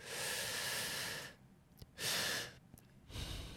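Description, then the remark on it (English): A long, deep inhale through the nose to full capacity, a short extra sip of air after a pause, then a soft exhale through the nose starting, done as a calming breathing exercise. Breathy and steady, with no talking. “if you're nervous about something, you basically do one big inhale, like to your max, whatever, and then breathe a little bit more in, and then just release it through your nose, and it just soothes you out.”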